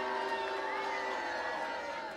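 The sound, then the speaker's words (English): A crowd cheers and whoops steadily for the Omega Moves, a dense wash of voices with shrill, rising yells poking out above it, loud and unbroken from start to finish. “Come on, you can do better than that. Louder, louder.”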